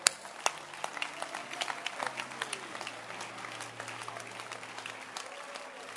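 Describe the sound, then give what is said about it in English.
A church audience claps hands at the preacher's call in a steady, dense patter of applause, with sharp louder claps standing out over a low murmur and faint sustained tones underneath. “All right, then clap your hands.”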